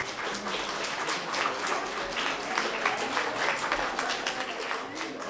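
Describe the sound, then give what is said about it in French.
An audience applauds the pupils of Niki de Saint-Phal steadily for about five seconds, dense overlapping claps forming a continuous rattling wash at an even, moderate loudness with no voices standing out. “Pour poursuivre, je vous demande d'applaudir les élèves de Niki de Saint-Phal.”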